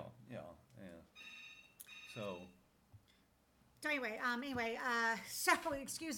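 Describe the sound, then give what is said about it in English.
A phone rings with an incoming call: bright, steady electronic tones chime a few times, then a louder, warbling melodic ringtone plays over faint voices. “So, interruption. We have a phone call”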